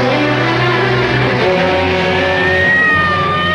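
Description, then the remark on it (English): An ambulance takes off and zooms through an intersection, its engine roaring loudly and steadily, the pitch shifting as it accelerates, with a thin rising whine coming through toward the end. “The ambulance takes off and zooms through an intersection.”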